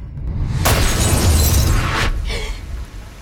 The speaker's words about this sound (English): The girl drops her glass of milk and it smashes on the floor, turning into blood.